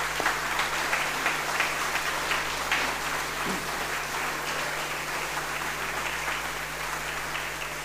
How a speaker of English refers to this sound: Can we have a round of applause, please, for the commercial catering?